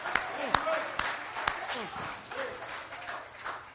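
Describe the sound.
A church audience claps and cheers, giving the Lord a hand of praise, in a steady, dense wash of applause, with a few sharp, louder individual claps standing out near the start while voices call out over it.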